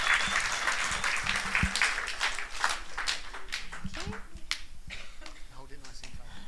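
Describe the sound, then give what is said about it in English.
A crowd applauds steadily as a speaker is invited up to share, with many overlapping hand claps forming a dense, sustained patter while a few voices murmur underneath. “Big round of applause.”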